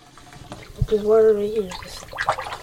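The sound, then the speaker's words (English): Sounds of a 10-year-old boy rinsing his mouth with water after brushing his teeth with adult toothpaste as he gets ready for school in Oakland, California, with a thump, splashing and a brief gargling, humming tone in the middle. “The fifth grader can't find his bubblegum toothpaste, so he has to use the adult stuff.”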